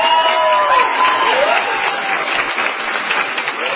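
Guard members, law enforcement, medical and hospital staff fill a hallway at Sanford hospital, cheering and applauding steadily as a released police officer walks out of the elevator, a dense, loud wash of clapping with a few whoops and shouts rising above it throughout.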